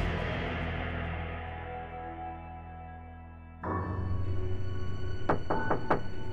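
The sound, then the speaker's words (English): Piano notes ring out and slowly fade as a woman plays at home in Wichita, Kansas, then a sudden, quick series of about four sharp knocks on the door interrupts near the end over a low background hum. “Vicki Weggerly was playing the piano when she was interrupted by a sudden knock at the door”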